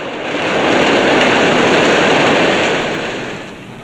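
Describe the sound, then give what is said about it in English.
A train rumbles past on a railway bridge overhead with a loud, broad roar that swells quickly, holds steady for a couple of seconds, then eases off as it moves away. No voices. “The gunman continues to run towards a railway bridge. A train passes above.”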